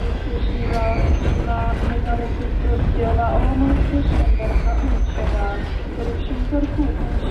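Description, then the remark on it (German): A train rumbles steadily at Šumperk railway station, a low continuous drone filling the whole stretch, while indistinct voices of a group of schoolchildren chatting cheerfully murmur over it. “Der nächste Zug von Šumperk nach Hanuševice ging in 10 Minuten.”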